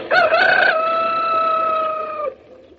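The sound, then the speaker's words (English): An old rooster, bought just down the road, crows once, loud, a long harmonic cock-a-doodle-doo that rises briefly then holds a steady tone before cutting off, with no talking. “I think he's much too old to be a broiler. He's tough as anything.”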